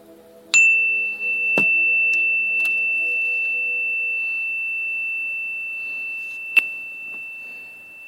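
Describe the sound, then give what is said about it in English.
A single bright chime rings out and sustains with a long, steady, slowly fading tone, accompanied by a few faint clicks, in an otherwise quiet setting with no voices. “After the chime, there will be silence other than the occasional sound of my voice to guide you.”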